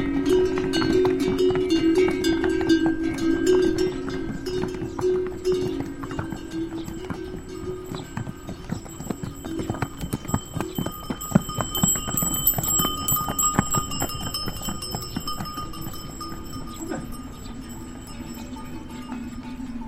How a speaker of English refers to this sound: In 2001, field recordist Aaron Zim, a.k.a. Quiet American, took a trek through Nepal, gathering sounds, Buddhist ceremonies, prayer wheels, and this passing donkey train.